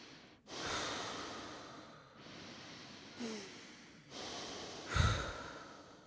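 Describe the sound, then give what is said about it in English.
Slow, deep breathing with about four long, audible inhales and exhales in a steady, unhurried rhythm, one ending in a slight nasal snort. No one speaks. “Okay, I want you to close your eyes, focus on your breathing.”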